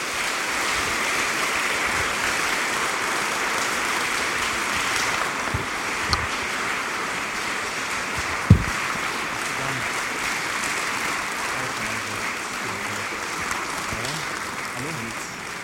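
A large crowd applauds steadily for about fifteen seconds, welcoming the next three nominees onto the stage at an award event, a dense, even wash of clapping, with a couple of sharper isolated claps standing out near the middle.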